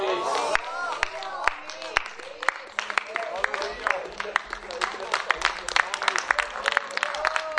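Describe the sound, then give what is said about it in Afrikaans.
A crowd claps steadily throughout, a dense patter of handclaps at moderate loudness, with voices calling out and speaking over the applause. “We gaan net anders om een groot ander klap.”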